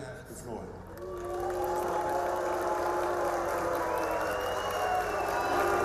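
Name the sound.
crowd whistling and booing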